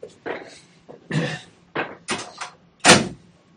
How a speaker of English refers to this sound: Could you open the door, please?